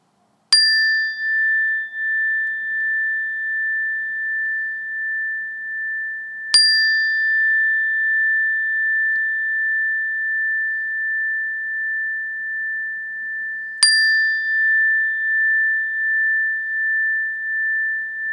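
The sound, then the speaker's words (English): A meditation bell is struck three times, spaced several seconds apart, each strike leaving a clear, pure tone that rings on steadily and slowly fades into the next, with no voices present. “and when I do, I want to invite you to shift your awareness to your hearing sense, and you might even just label hearing or sound when you hear the bell.”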